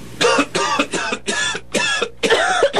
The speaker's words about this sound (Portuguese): Tosse por mais de 3 semanas, com ou sem catarro.